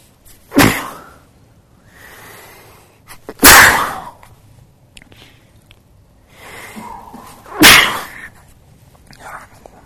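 Three sharp, loud sneezes burst out, spaced a few seconds apart, with quieter breathy sniffing and rustling in the gaps between them.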